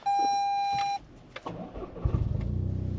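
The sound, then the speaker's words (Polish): A steady electronic chime sounds for a second, then a starter motor cranks briefly and a petrol car engine, just refuelled with 5 litres, starts without any problem, settling into a rhythmic idle. “ale zaraz, może w pierwszej kolejności zobaczmy, czy to auto w ogóle odpali.”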